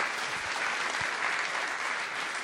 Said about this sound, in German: Einen Applaus bitte.